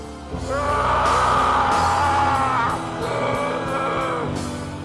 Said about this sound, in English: But my screaming in this scene will continue for another 45 seconds.